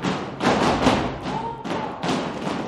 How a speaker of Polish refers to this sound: No siłę bierzemy z ziemi. Po prostu my tutaj potrafimy tupnąć. I ta ziemia nas unosi i odbija i czujesz się mobilna dzięki temu.